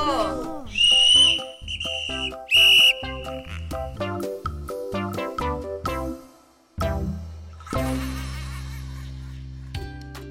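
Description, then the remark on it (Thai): Several short, shrill whistle blasts, as children practice blowing their safety whistles, sound in quick succession near the start over steady background music, which then carries on alone. “งั้นเรามาซ้อมเป่ากันให้เด็กๆแขวนนกหวีดไว้กับกระเป๋าหรือที่ที่หยิบได้ง่ายๆนะจ๊ะ”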